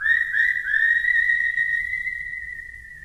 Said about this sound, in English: And the animated critters are kind of echoed by the whistling that we'll hear at the opening of this song.